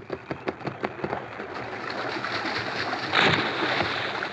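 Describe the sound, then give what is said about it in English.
The masked Lone Ranger plunges into a river and swims out to a wounded deputy: quick rhythmic splashes of strong swimming strokes give way to steady rushing water, with a heavier splash near the end. Fairly loud, with no voices. “An instant later, the masked man was in the water.”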